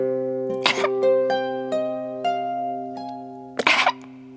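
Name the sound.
coughing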